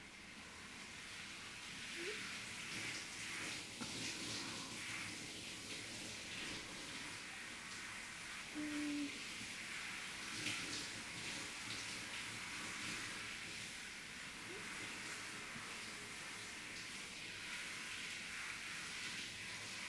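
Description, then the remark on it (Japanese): Steady running water hisses continuously for the whole stretch, a soft rinse washing off foam, with faint splashes and a few small knocks, no voices. “じゃあこのまま洗い落としがないようにしっかり流していくね。”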